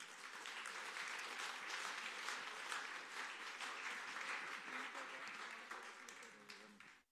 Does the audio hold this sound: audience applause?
yes